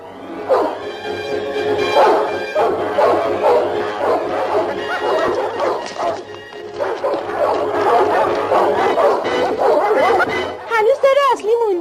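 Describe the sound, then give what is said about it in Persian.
Several dogs bark excitedly and almost nonstop, loud, their yelps overlapping in a busy chorus that breaks into higher whining yips near the end. “سگای خوب، صبر کنین، صبر کنین. آفرین سگا. حالا برگردین و به اونا حمله کنین، به اونایی که دنبال ما هستن.”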